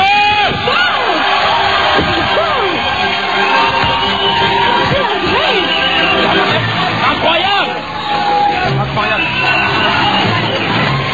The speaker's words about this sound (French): Je vous demande d'accueillir sous un tonnerre d'applaudissements, celle que le DS mille fois, la chance de la Forêt Magique,